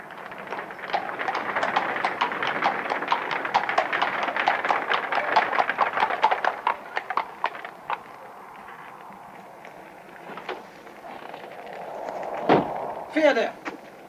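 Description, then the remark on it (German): Horses' hooves clip-clop in a rapid, steady clatter outdoors as horses stand at a gate, busy for several seconds before thinning out, with a low murmur and a few scattered knocks after. “Was sind das für Pferde, die draußen am Tor stehen?”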